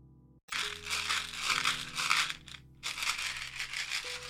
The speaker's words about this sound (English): That was the chewing gum pause.